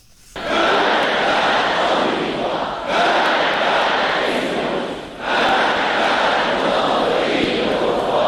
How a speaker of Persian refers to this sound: مرگ بر آمریکا، این شعاری است که از آغاز انقلاب اسلامی در ایران شنیده شده و اکنون حدود 37 سال بعد فرمانده کل ارتش ایران میگوید این شعار به عنوان شعار ملی همیشه باقی خواهد ماند.